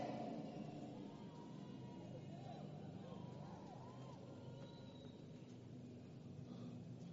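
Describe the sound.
A steady, low engine roar of an airplane passing overhead fills the whole stretch, holding fairly constant in loudness, with faint indistinct voices mixed underneath.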